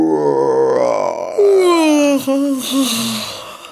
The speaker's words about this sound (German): Gähnt er.